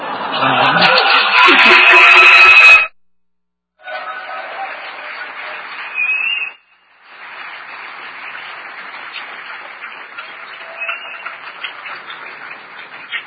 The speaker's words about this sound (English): People always applaud for that, and I'm so confused. You should be booing, because it says that if a company does the right thing, they get punished by the marketplace.